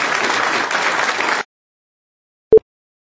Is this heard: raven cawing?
no